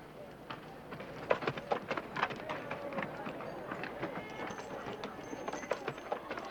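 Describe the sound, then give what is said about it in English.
The hooves of a tiny donkey carrying a woman clip-clop at a steady trotting rhythm on a hard surface, with a busy background murmur of voices and activity underneath. “She pats its back with her hand, and off they trot.”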